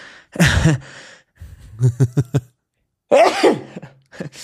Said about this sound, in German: Warte kurz, ich muss niesen.